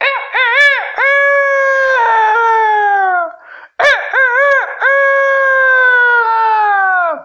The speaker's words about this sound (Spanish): La noche pasó y muy de madrugada los gallos comenzaron a cantar.